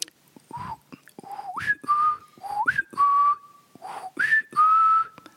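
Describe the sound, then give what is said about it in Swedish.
A person whistles a short family call whistle, three rising-then-held phrases with steady pitched tones, clear with no talking. “Han hade en vissling. Inte bara till mig, utan till alla barn och familjemedlemmar hade han vissling.”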